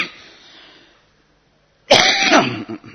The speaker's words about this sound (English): You'll have to pardon my occasional coughs.